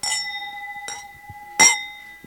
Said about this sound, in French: Donc, plutôt que de parler de catastrophe, on va trinquer plutôt à eux.